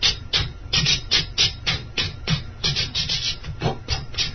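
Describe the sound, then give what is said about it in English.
Clothes being scrubbed by hand on a bathroom floor: a steady run of harsh, rasping rubbing strokes, roughly two or three per second, fairly loud and continuous, with no voices. “So, Swamiji, what are you doing in there? He said, I'm washing my clothes.”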